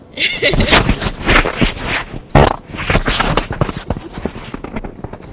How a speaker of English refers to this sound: What did that last sound like? You farted! Stop farting!